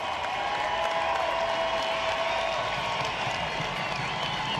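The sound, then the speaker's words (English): A large stadium crowd of fans at a Major League Baseball game applauds steadily for Oakland A's player Stephen Piscotty as he returns to the plate after his mother's death. Sustained clapping and a few cheers blend into a dense, constant roar that holds at the same loud level throughout. “A Major League Baseball player who returned to the plate after the death of his mother got an uplifting response from fans at the game.”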